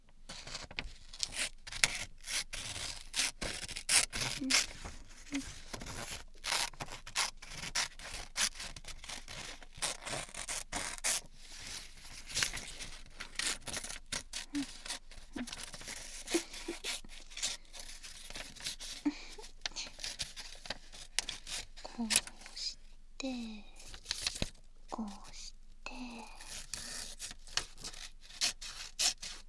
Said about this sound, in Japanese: じゃ、これ折り紙があるので、これを切りますね。